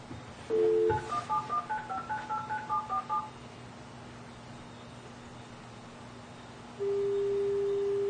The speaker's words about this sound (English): It's just not giving us the, you know, we're just trying to dial a long distance that won't give us the code.